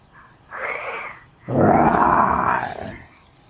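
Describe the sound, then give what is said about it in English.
A person imitates a lion's roar with a short growl followed by a longer, louder, rasping roar, clear with no other sounds around it. “See the long lean lion? Roar! Remember the lion says roar.”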